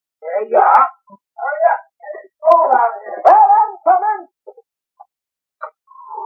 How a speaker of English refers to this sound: Sure that wolf dog is tied up good? Sure, I chained him before I let you in. Down, Lobo.